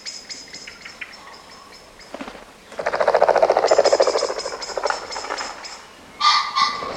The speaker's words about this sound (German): Die Amsel warnt, der Fasan fliegt auf. Die Welt ist in Ordnung.